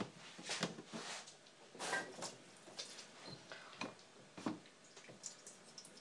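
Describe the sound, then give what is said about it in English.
Liquid being drained from a tin of fish, with irregular metallic clinks and scrapes and a splashy trickle in short bursts. No one speaks. “Have to drain the gunk off it first.”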